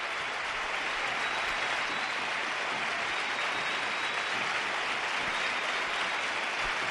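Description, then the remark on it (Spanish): A football stadium crowd applauds steadily for about seven seconds as player Borja Iglesias, 'el Panda', is substituted and leaves the pitch, a dense, even roar of clapping with no break and no voices standing out. “Sí, que le aplauden al Panda. Ovación cerrada, ¿eh?”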